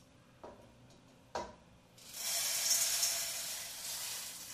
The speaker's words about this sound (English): So, without further ado, we're going to pour the rest of this popcorn in here.